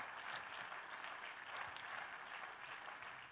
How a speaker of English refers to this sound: And if I'm correct, just go on and clap your hands one more time and give God praise.